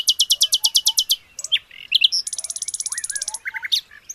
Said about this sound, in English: One morning, the birds were singing. Little Bird had been practicing his singing and decided to join in.